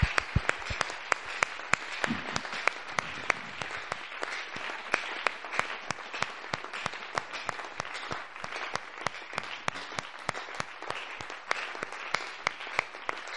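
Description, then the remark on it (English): A crowd claps to thank God for his word, clapping steadily for over thirteen seconds, a dense, even patter of many hands with sharp individual claps standing out, and no voices rising above it. “Let's thank God with our hands over his word.”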